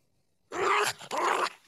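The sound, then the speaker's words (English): A hungry dog named Dawkins growls in two short, rough bursts, the second following after a brief pause, with no talking. “This dog is starving right now.”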